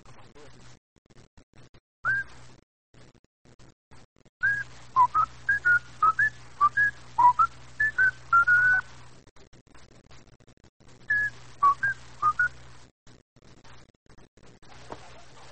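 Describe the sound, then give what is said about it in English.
A person whistles a melody in short, bright phrases, pausing between bursts, fairly clear over a low steady hum, with no talking. “And now, listen, they like to hear you whistle this song.”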